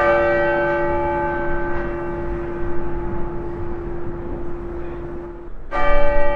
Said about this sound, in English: Bells rang out in Denver from the Cathedral Basilica as Coloradans remembered Pope Francis today as a transformative leader who redefined what it means to serve the global community.